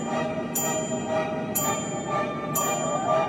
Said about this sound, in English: We went to space to find these chimes. We had to fly our spaceship into deep space.